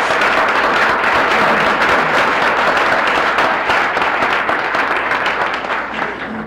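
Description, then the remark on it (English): Sustained audience applause for the standing graduates fills the space, dense and loud with many hands clapping at once, holding steady for several seconds before beginning to taper off slightly at the end. “Well, I guess we do when we're going in the procession, but I think we should give them a round of applause.”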